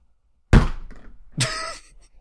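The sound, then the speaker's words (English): A heavy thud of a head hitting a desk, followed a moment later by a second sharper knock with a brief rattling clatter as the impact flips a computer mouse upside down, then quiet. “That was my skull planting into my desk so hard that it flipped my mouse upside down.”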